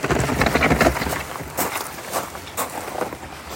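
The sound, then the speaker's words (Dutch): Footsteps crunch steadily over a sandy hill, a few soft, evenly spaced steps heard after a brief stretch of rustling, windy noise. “Even voor de luisteraars, ik vind het moeilijk om te beschrijven, maar we lopen nu echt over een soort van heuvel tussen het zand.”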